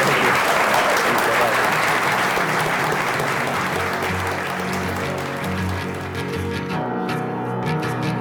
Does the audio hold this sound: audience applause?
yes